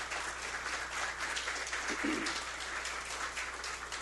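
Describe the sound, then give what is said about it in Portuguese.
Steady audience applause, a dense continuous patter of many hands clapping at moderate loudness for the full stretch, with no voices over it, at a session of the Santa Maria de Jetibá municipal chamber marking the municipality's political emancipation, as council president Carlos Espíndola is invited to the head table. “Uma salva de palmas.”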